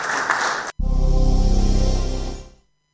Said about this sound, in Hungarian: A beszédet követően az első éves papnövendékek fogadalomtételére került sor. Az idősebb diákok tapssal köszöntötték az újoncokat.